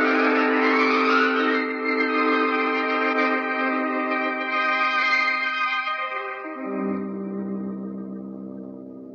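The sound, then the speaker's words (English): A car engine roars loudly at high speed with a sustained, squealing whine like skidding tires, the pitch sliding lower near the end before fading slightly. No one speaks. “Come on, we've got to get ahead of that car.”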